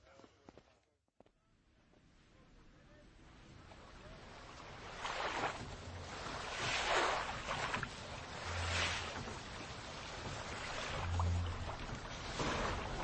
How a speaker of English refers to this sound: The Hispaniola lay some way out, and we went under the figureheads and round the sterns of many other ships, and their cables sometimes grated underneath our keel and sometimes swung above us.